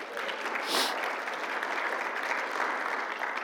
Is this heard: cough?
no